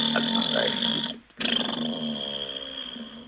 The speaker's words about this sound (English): That's another toilet flushing. The sound machine is like a comment on what I'm...